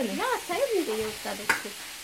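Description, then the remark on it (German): A steady sizzle of food frying in three pots, pancakes cooking in the first and onions being pre-roasted in the other two, runs throughout, with background voices rising and falling over it and a brief clink near the end. “In dem ersten werden Pfannkuchen gemacht und in den anderen beiden sind Zwiebeln schon mal vorgeröstet.”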